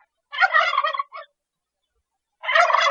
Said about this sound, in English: Turkey hunting old-timers and newcomers alike will surely tell you there's just something about the sights and sounds of these big birds in their full courting regalia that keeps them coming back for more year after year.